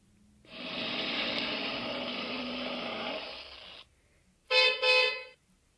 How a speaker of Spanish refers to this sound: En lo que ambas mujeres platicaban, el vehículo ya se acercaba a su destino. El chofer tocó el claxon para que le abrieran la reja y poder entrar al amplio jardín que antecedía la mansión.